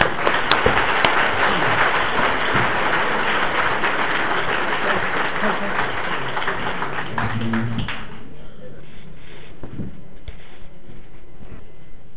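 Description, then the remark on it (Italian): A crowd at a convention applauds to welcome a priest as speaker, with dense, steady clapping for about eight seconds, then the clapping dies away and leaves quieter background noise with a few scattered sounds. “lo accogliamo con un applauso.”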